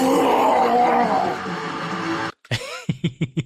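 A man lets out a loud, drawn-out triumphant victory howl lasting a couple of seconds, then a brief pause before a series of short, rhythmic breathy huffs like heavy panting as he props his hands on his hips.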